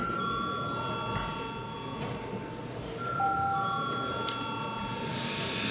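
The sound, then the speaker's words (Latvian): The Saeima parliament's voting bell rings steadily for several seconds, calling deputies to vote on sending a bill to committee, a sustained electric chime with faint background murmur of people underneath. “Komisijai lūdzu zvanu.”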